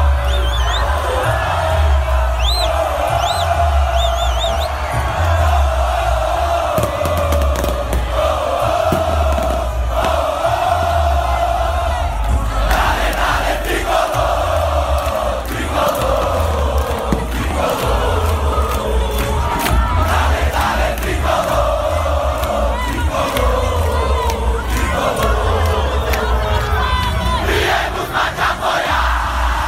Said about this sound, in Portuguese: Escuta só aí a torcida do Fortaleza, que festa bonita.